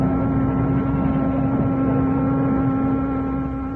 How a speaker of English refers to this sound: Thanksgiving Day 1943, Captain Morgan Maxey, master of the American tanker Cedar Mills, and his first mate stood on the bridge as the ship weighed anchor and prepared to head out to sea.